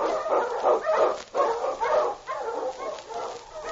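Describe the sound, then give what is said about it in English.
A pack of husky sled dogs, led by the lead dog King, barking and yelping in quick, overlapping bursts as they are urged on in the Yukon, steady and fairly loud throughout, with no one talking over them. “On your huskies!”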